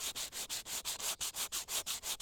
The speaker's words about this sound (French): Feuille de papier de verre.